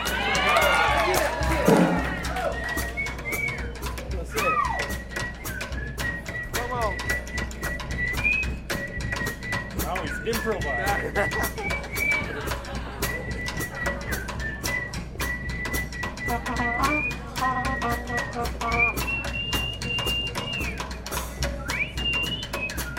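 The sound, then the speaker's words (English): A long whistled solo melody of high, sliding notes runs throughout, while the band and others laugh, joke, chatter and call out underneath at a steady, lively level. “Yes, and you can even hear the band and others laughing and joking while the whistling solo is taking place, and then, of course, the whole band swings right back into the number.”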